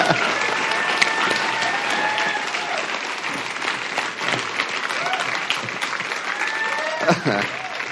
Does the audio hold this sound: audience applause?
yes